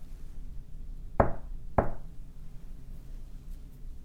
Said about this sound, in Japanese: 年寄りのものですから耳さとくその音を聞きつけて、誰だろうと思いました。 どなた とおばあさんは言いました。けれどもそれには答えがなく、続けてトントンと戸をたたきました。